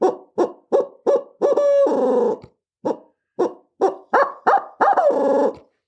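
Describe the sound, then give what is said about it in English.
A wooden owl caller, blown by hand, hoots in a quick rhythmic series of short notes, then a longer drawn-out wavering call, repeated twice; loud and without any talking. “it's the biggest fault people have with this is like all other owl calls, they want to blow hard”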